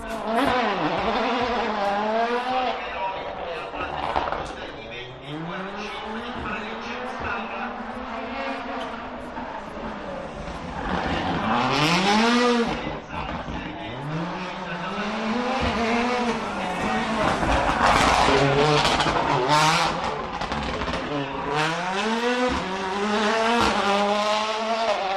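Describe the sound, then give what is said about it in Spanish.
Valentino Rossi's rally car engine buzzes and revs hard in the gymkhana on the Monza circuit track at the Monza Rally, its pitch sweeping up and down through repeated accelerations and gear shifts, loud and continuous for the whole stretch. “Escuchar cómo zumbaba allí en esa gincana que se hacía en la pista del trazado de Monza.”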